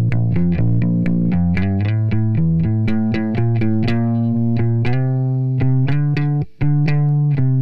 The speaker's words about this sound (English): Okay, let's go and take a look at the bass. The bass is an electric bass recorded from Line. Let's listen first to the dry signal.